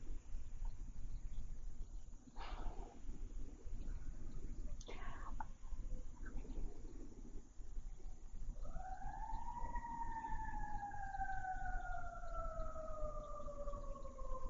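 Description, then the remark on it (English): An emergency siren rises in over a low traffic rumble about halfway through, holding a loud, steady wail whose pitch slowly slides downward as the vehicle passes. “There's always the opportunity when one hears a siren to know that at the very least probably somebody's very frightened.”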